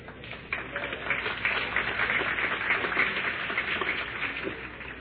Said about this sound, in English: I appreciate your applause, but man, I'd appreciate your prayers.